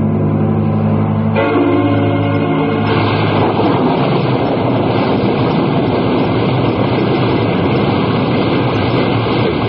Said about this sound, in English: No, let's stay. I love the wildness of the storm over the ocean. Yeah, it's nice. I think this one will blow over pretty soon.